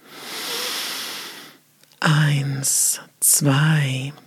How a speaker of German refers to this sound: Wir atmen ein durch die Nase. 1, 2, 3, 4.